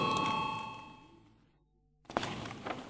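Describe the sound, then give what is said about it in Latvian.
A parliamentary voting bell chime, rung to call a vote on a proposal, rings out with a clear, ringing tone that fades away over about a second and a half, followed by a brief silence and then a burst of room noise. “Lūdzu zvanu, balsosim par trešo frakcijas no Sirds Latvijā iesniegto priekšlikumu.”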